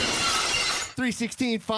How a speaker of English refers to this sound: Oh, it didn't work. Sound of glass breaking.